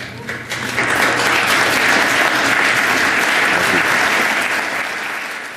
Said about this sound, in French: Rarissime. En fait, c'est devenu contre le règlement que de se lever et de s'applaudir pendant la période des questions. Mais aujourd'hui, il n'y a personne qui trouvera à redire de ce qui s'est passé. Ça s'impose.